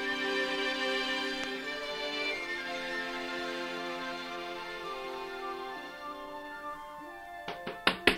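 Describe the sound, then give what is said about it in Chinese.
A sustained musical tone fades out, then three or four sharp, loud knocks on the door of scholar Song Lian's house land together right at the end. “开门，开门！”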